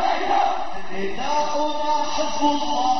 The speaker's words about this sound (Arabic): ووسط هتافات التلبية والتأكيد بالمضي على درب المقاومة، جاب النعش الطاهر شوارع البلدة محمولا على الكف الرفاق وصولا إلى مدفن الشهداء